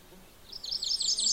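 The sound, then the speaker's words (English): A mourning warbler sings a quick run of bright, rolling notes that rise and repeat, somewhat distant against a faint background hush with no talking. “There, cheery, cheery, cheery, choy, choy, choy. That's the morning warbler.”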